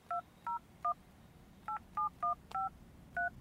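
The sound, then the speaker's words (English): Eight short telephone keypad tones beep in an uneven sequence, a pause splitting them into a group of three and a group of five, each dual-pitched and clear over a faint low hiss, typed in on a call to a grocery employee concerns hotline. “Please type.”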